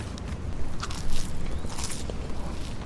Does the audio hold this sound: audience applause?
no